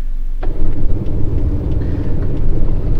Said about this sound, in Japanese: ハーレー・デイビッドソンがすごいな、こうお腹にずしっとくるこのドドドドドドドっていうのがね、たまらんですね